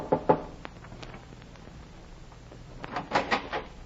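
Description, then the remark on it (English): Knocking at night on a wooden cabin door aboard a ship docked in a harbor: two quick raps, a long quiet pause, then another short cluster of knocks, moderately loud, with no voices. “I went aboard one and knocked on the cabin door.”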